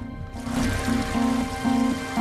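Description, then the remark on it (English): Hot water, heated in pans on a hob and in a kettle, pours steadily into a bath, a continuous splashing rush with a hollow low tone that swells and fades at intervals as the tub fills, fairly loud. “filling a bath with the water she's heated on the hob, as well as from a kettle.”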